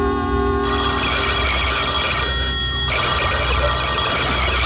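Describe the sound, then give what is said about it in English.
A telephone bell rings loudly and continuously in the radio drama Sorry, Wrong Number, a dense metallic rattling ring that never pauses, with no voices present. “Stop ringing, will you?”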